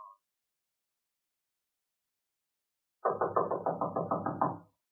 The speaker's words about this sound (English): Oh, there, the door's opening.